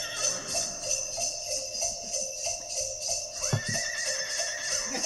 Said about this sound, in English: Oh my God, someone's hurting that horse. That horse is near too much loud music.